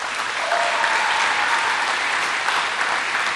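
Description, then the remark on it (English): A room full of Boys and Girls Club supporters applauds themselves, a dense, steady wash of clapping that holds at an even, fairly loud level for a few seconds with no voices over it. “So everybody, please give yourself a round of applause.”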